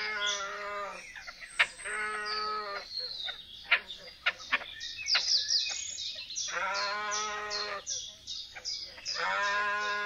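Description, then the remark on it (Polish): A bird showing aggression toward a rival gives drawn-out, harmonic cries that shift into longer, strongly vibrating, bleating calls, repeated in bursts with short rasping notes between them, loud. “Słyszymy także przeciągły okrzyk, przechodzący stopniowo w dłuższe i silniej wibrujące dźwięki.”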